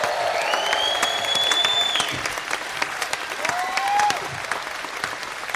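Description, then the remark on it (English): A live audience at the end of a live show at the Odeon applauds Nato Green, breaking into sustained, steady applause, dense clapping filling the whole stretch, with a couple of high whistles cutting through above the crowd noise. “Give it up for the wonderful and massive NATO Green!”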